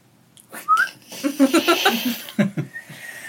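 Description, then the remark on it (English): In Antigua, Guatemala, a person whistles short, airy notes while inhaling, broken up by a burst of laughter and giggling before a final thin, steady whistle trails off. “Inhale whistle? Is that what you're doing?”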